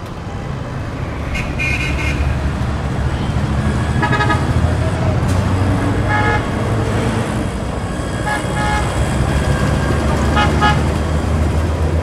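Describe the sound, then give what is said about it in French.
Dense evening city traffic in Delhi, India, with a steady low engine rumble and frequent car horns honking, short toots and longer blasts overlapping from several directions, some loud, others quieter. “Conduire sans klaxonner en Inde, c'est inimaginable.”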